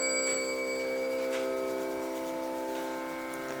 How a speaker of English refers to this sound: In the distance, a temple bell rings.